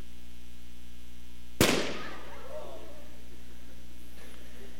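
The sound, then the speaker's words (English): An outer balloon with an inner balloon inside is poked, in an attempt to pop the outer one without popping the inner one, and bursts with one loud, sharp pop that rings out briefly and fades over a steady low hum; the moments before and after are quiet. “No, I'm going to try to poke that outer balloon without poking the inner balloon.”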